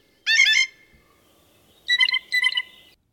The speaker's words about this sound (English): The tweedle, tweedle of the blue jays.